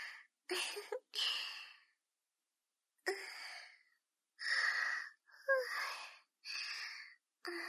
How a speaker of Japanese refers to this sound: 安心したせいかちょっとあくびが。